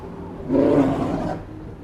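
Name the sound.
polar bear roar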